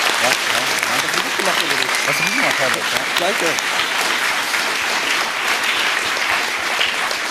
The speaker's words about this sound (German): Vielen, vielen Dank an alle Helfer, an alle Teams, die das gemacht haben. Applaus, Applaus bitte, ja.